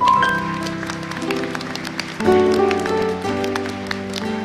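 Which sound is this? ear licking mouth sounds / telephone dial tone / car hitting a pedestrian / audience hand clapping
audience hand clapping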